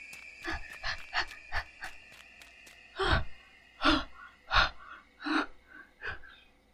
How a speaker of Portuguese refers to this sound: Ofegante, a mulher segura a respiração e consegue finalmente falar com os meninos.